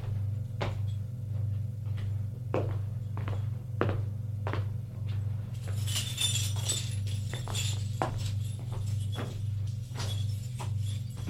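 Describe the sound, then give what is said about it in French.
A woman unlocks and opens the door of her fifth-floor apartment: a series of sharp clicks and thunks, then a bright metallic jingle like keys, over a steady low hum. “Ouvre la porte de son appartement et va dans sa chambre.”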